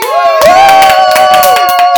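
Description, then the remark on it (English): Loud, dense clapping and cheering, with one long, high, steady whoop held over the applause for most of the two seconds. “I'm watching the levels, and we like off the charted clap right there.”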